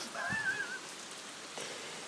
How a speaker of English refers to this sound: It's absolutely pouring. I'm standing undercover in my nightie. I'm sure you all wanted to know that. And I'm listening to the rain. It's a nice sound.